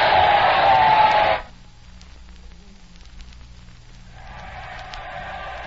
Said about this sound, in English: What crowds! What cheering. Her Majesty enjoyed it, I think.